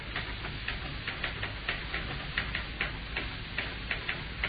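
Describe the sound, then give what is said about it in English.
Typewriter keys tapping in an uneven, steady stream of sharp clicks like knuckles on wood, moderately quiet, over a faint background hiss with no voices. “The sound of the tapping of the typewriter keys is like knuckles on wood.”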